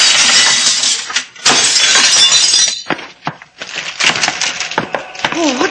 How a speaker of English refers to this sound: Watch out for the flying glass, sailor.